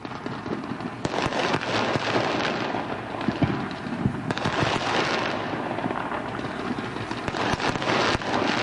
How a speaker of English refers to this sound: And we've been hearing a lot of it for the entire time since July 4th. Yeah, they still got some fireworks left over.